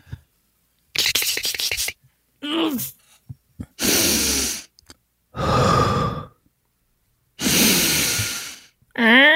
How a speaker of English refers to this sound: Well, really, you breathe deep because he's going to have his ear to the door and he needs to hear you breathing.